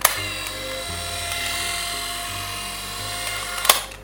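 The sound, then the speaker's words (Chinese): An electric shaver runs steadily for about four seconds, a bright, buzzing motor whine with a low hum beneath it, ending with a brief click or rattle near the end. “我们首先来倾听一下剃须刀是什么样的声音。”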